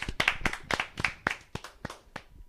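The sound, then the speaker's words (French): Several people applaud one another together for a couple of seconds: a dense, uneven patter of sharp claps at first, thinning to a few scattered, quieter claps before fading out. No one speaks. “Donc je pense qu'on peut vraiment, mais vraiment, hein, complètement tous s'applaudir.”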